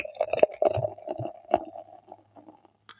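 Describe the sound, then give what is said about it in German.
A beer bottle is opened with a short sharp burst, then poured into a glass with gurgling, bubbly glugs that gradually thin out and fade to quiet, ending with a faint click. “Aber gut, dann machen wir mal auf. Also auch hier wieder der Sound, mal gucken.”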